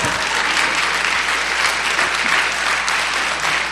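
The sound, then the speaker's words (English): An audience breaks into steady, loud applause, a dense wash of many hands clapping that holds evenly for a few seconds with no voices standing out. “I will give you a hug and while people applause.”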